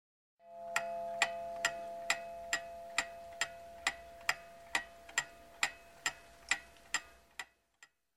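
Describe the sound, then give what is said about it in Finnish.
A mechanical clock ticks in a quick, steady rhythm, about sixteen sharp clicks, clear over a faint sustained ringing hum, ending with one last isolated tick; the time is nine o'clock. “Paljonko kello on? Kello on 8. Kello on 9.”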